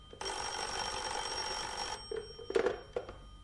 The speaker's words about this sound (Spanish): El timbre del teléfono los hace reaccionar. El pequeño Solín descuelga.